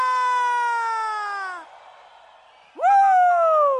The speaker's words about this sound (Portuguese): Sejam todos muito bem-vindos a mais um domingo de avivamento! Toda a igreja do avivamento dá um grito de guerra!